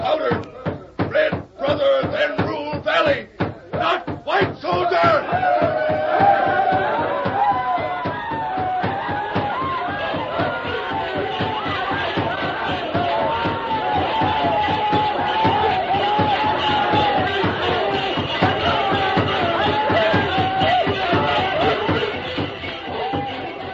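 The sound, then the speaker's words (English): A crowd of dancing braves whoops and yells war cries at night, working themselves into a frenzy over loud, rapid rhythmic stamping that dominates the first few seconds, then gives way to sustained, wavering massed shouting that stays loud throughout. “Tonto knew the plan of the savages, and while they danced and shouted, working themselves into a frenzy, he slipped away unnoticed and joined the masked man.”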